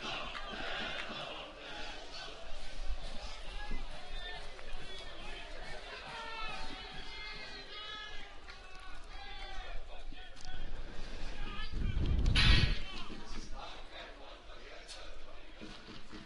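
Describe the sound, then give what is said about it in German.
A large stadium crowd of WSV football fans chants and cheers without pause, urging their team forward. It is a dense, steady roar of many voices that swells into a louder burst near the end. “Die ganze Zeit verbreiten sie eine tolle Stimmung hier. Peitschen ihre Mannschaft nach vorne.”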